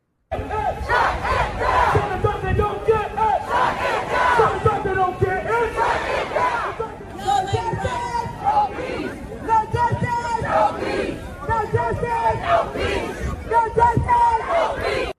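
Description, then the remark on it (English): A large crowd chants protest slogans in unison, including that if Dante does not get it, "shut it down" and "no justice, no peace", loud and rhythmic, with voices rising and falling in repeated shouted phrases that carry on steadily throughout. “Let's go to Cut 5, crowd chanting that if Dante does not get it, shut it down, no justice, no peace.”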